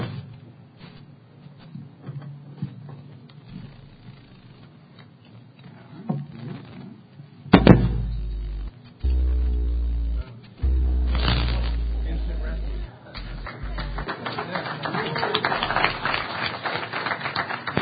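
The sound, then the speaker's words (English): An amplified hard drive signal, picked up and amplified through an op amp: scratchy ticking and rustling, then loud bursts of deep electronic hum with wavering harmonic tones that cut in and out before dissolving into crackly noise. “A friend of mine's like, well, you can just pick up an op amp to it and amplify the signal and see how it sounds.”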